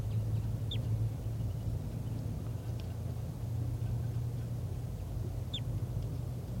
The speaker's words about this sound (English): There are calls coming from over there. I'm not sure which bird is giving flight calls. I think it's the wild bird.